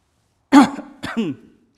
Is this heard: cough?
yes